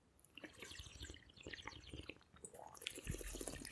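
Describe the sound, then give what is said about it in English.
Wet, bubbly slurping of wine, a run of short gurgling pulls and drips with airy hiss, fairly quiet and uneven in rhythm, with no talking over it. “Let's slurp some wine”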